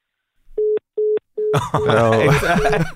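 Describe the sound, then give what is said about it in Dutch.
Three short, steady telephone ringing tones pulse in a regular rhythm on a quiet line while a call is connected for a live broadcast, then voices begin talking and continue over the last ring. “De telefoon gaat over zelfs.”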